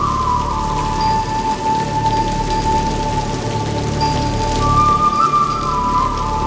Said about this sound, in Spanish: Llueve torrencialmente sobre el edificio histórico en el que Sita espera a Rada. La joven se pone bajo la lluvia y mira al cielo.